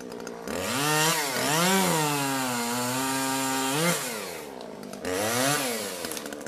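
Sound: chainsaw cutting a tree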